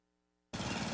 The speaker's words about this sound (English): Babes, what are you doing? What? I'm just mowing the lawn.